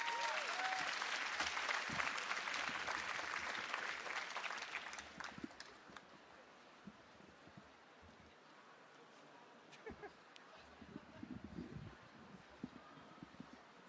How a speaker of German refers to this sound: Und jetzt, liebe Leute, habe ich die schöne Aufgabe für euch, den besten Jan Wattjes der Welt anzukündigen, denn er kommt jetzt und wird auch irgendwas aus seinem Buch vorlesen. Bitte macht einen frenetischen Applaus für Jan Wattjes!